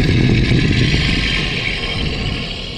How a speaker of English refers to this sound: But then she heard another noise. It was a vicious growl.